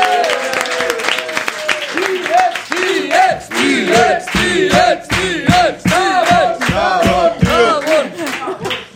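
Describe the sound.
A loud crowd bursts into sustained applause, dense clapping running throughout, with voices cheering and whooping over it in rising and falling shouts for the whole stretch.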